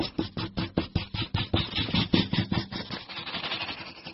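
A marker squeaks and scratches across a surface in quick, rhythmic drawing strokes, about four or five per second, with a bright, slightly squealing texture, captured with highly sensitive microphones. No voices.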